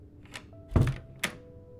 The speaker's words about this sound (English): Now get in here and close the door.